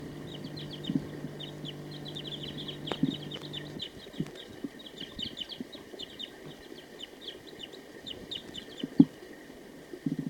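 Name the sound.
wild bird calling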